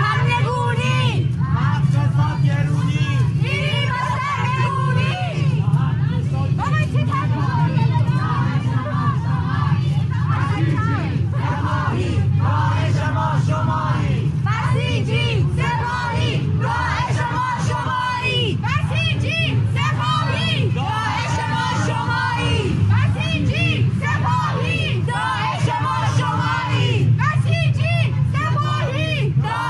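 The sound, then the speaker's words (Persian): A large street crowd of protesters in Tehran, just before Enghelab Square, chants a new slogan together, loud and steady for the whole stretch, their massed voices blending into a dense, continuous roar with repeated vocal surges. “بله، شعارش هم جدیده، چیستویی هرزه تویی، شعار جدیدی است، تهران نرسیده به میدان انقلاب.”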